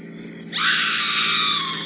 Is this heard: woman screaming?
yes